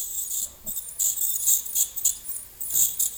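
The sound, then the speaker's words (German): A dental scaler gives off a thin, high-pitched hissing whine that pulses in short uneven bursts for about three seconds, with no low tones and no voices. “Oder dem Geräusch des Zahnsteinentferners.”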